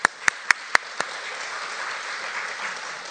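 An audience applauds the mention of filmmaker Earl Morris's Academy Award for The Fog of War. A few sharp, evenly spaced claps ring out first, then dissolve into a steady, moderate wash of group applause that carries on without any voices.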